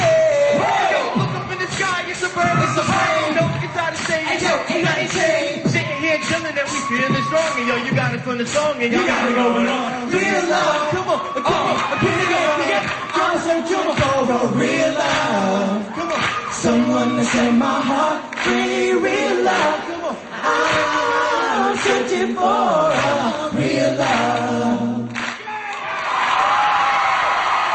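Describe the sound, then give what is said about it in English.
A loud crowd cheers and whoops without pause for almost half a minute, with overlapping shouts and yells forming a dense, steady roar. “The crowd likes him.”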